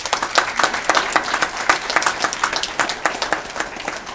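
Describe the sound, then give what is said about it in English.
A crowd applauds steadily, many hands clapping in a dense, crackling wash with no voices on top, holding at an even, fairly loud level throughout. “And you know, a round of applause to you all from you, can, because you're a fantastic job.”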